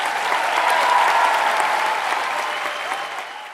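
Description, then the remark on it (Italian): A large circus audience claps in a dense, continuous burst of applause, loud and steady throughout, easing off slightly toward the end, with no talking over it. “Dopo due weekend di applausi, il circo si appresta a varcare le Alpi, ma lo fa con la promessa di tornare l'anno prossimo.”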